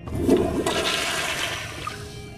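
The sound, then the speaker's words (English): A toilet flushes with a loud rush of swirling water that keeps a steady roar for a couple of seconds, with no voices. “Oh, yes, there's nothing better than sitting on a gold-plated toilet seat in the middle of the ocean to make you feel important.”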